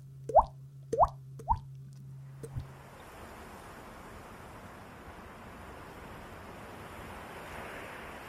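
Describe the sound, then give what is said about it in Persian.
A few quick plopping drops at the start, then a steady, fairly loud rush of flowing water that carries on evenly to the end, with no voices. “میگن آب صدا نداره، اما بالاخره یه روز تو گیلان یه کنگره‌ای برگزار شد.”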